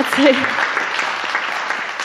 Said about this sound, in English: I'm going to make that same request of holding the applause that you might have toward the end, because I can squeeze more poems in that way.